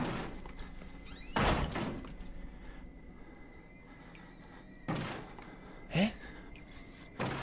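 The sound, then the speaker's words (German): A few dull, isolated knocks against a door, spaced irregularly over several seconds, sounding somewhat muffled, with a quiet hum in between and no talking. “Da klopft einer rum.”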